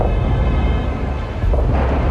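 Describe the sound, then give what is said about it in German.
Loud, deep rumbling of explosions during Iranian attacks on US military bases in the region, mostly Iranian projectiles being destroyed in the air, rolls on without a break, a heavy low roar that dips briefly and then surges again partway through. No voices are heard. “Immer wieder sind Explosionen zu hören.”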